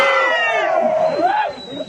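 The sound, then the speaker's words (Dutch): An evening crowd of old punks, rockers and Amsterdammers cheers and shouts loudly and steadily for about two seconds, with several voices yelling over one another. One rising, drawn-out whoop stands out near the end. “Die stonden te schreeuwen. Kom op.”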